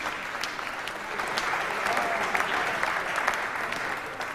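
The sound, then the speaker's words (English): Steady audience applause fills the whole stretch, a dense wash of many hands clapping at an even level from a sizable crowd at a beauty pageant, as the third runner-up (troisième Dauphine), Miss Camargue, receives her sash. “Alors attendez, on applaudit maintenant qu'elle a ceint l'écharpe de troisième Dauphine, Miss Camargue.”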